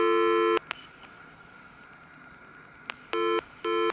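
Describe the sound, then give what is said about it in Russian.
Loud electronic telephone line tones in short steady bursts from a Panasonic telephone handset switched from tone to pulse dialing, separated by sharp isolated clicks and crackles of pulse dialing over a faint background hiss. No one speaks. “Вот тон. Это сейчас вот будет импульсник.”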